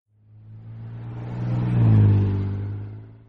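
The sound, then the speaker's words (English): A truck engine revs and drives past, its low rumbling hum swelling steadily louder to a peak before easing off again. No voices, just the vehicle on its own. “On Friday, they drive their truck to the park.”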